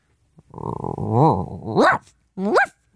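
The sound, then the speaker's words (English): A person's voice imitates a tiny dog, starting with a low, wavering growl that rises into two sharp, high-pitched yips, fairly loud. “Tiny dog.”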